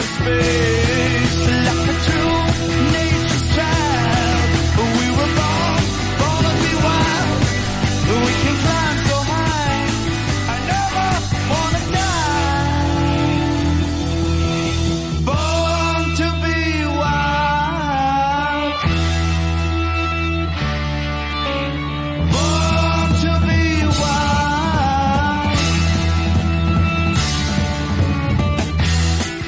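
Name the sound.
song playing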